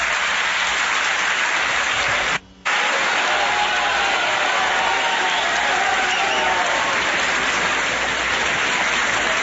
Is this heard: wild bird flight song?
no